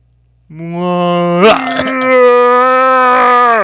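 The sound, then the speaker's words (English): A voice imitates a whale throwing up with one long, loud, low moaning wail held steady for about three seconds, broken early on by a brief gurgling catch. “You know what it sounds like when a whale throws up?”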